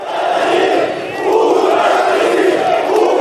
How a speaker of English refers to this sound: Today in Belarus, Lukashenko went to speak to workers at a tractor factory in the capital, Minsk. They heckled the president, shouting, "Leave and resign."